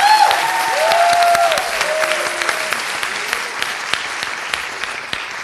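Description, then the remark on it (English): A crowd applauds steadily to welcome author Madeline Miller, a dense wash of many hands clapping at even loudness, with a few faint tonal squeals at the start before the clapping carries on alone. “But we are thrilled and excited and hope you will welcome with a rousing round of applause Madeline Miller, who's based in Philadelphia.”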